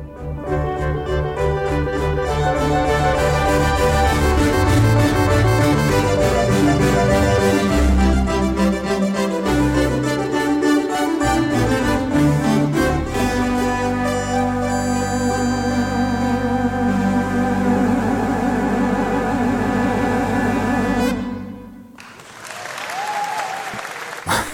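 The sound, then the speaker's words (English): Bright, buzzy Moog synthesizer music plays a movement of the Brandenburg Concerto, a busy, layered melody with steady rhythm for about twenty seconds, then stops abruptly and gives way to a short burst of applause from a few people in the studio. “If you stay on the line, we shall hear some Moog magic, and then we'll be back right after this.”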